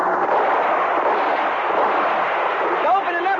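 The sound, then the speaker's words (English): A dense, unbroken barrage of rapid cover fire in a police shootout with smugglers roars steadily for several seconds, loud and continuous, with a few brief whistling tones rising through it near the end. “Well, give him some cover fire.”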